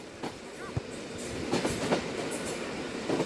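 A train rolls steadily along the rails, carrying Lahm and his VfB teammates to his first German national team camp: a constant low rumble broken by irregular clickety-clack knocks from the wheels passing over track joints, with no voices.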